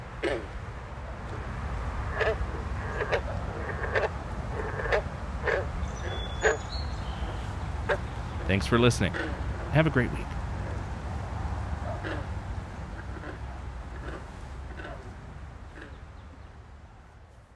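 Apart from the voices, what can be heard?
frogs croaking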